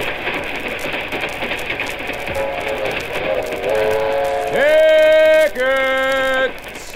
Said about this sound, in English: The train goes along through tunnels and over mountains. At last, it stops at a little village.